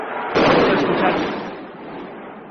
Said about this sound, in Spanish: En el minuto 87 pasa lo que estamos escuchando ahora, que le marcan en propia puerta, y estos gritos son de los futbolistas de la ECA yéndose al vestuario perseguidos por los aficionados de la ECA que querían agredirles.